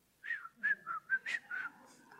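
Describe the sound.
A person whistles a short tune of about six clear, distinct notes with a slightly wavering pitch, alone with no talking.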